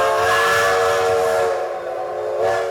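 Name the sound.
steam train whistle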